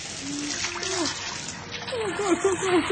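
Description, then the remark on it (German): Water gushes and splashes steadily from a burst pipe, a continuous rushing spray, while people talk loudly over the noise. “Sie hat den Wasserbruch bemerkt.”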